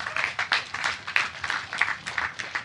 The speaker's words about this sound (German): Ey, danke erstmal für dein Plädoyer. Kurz Applaus dafür.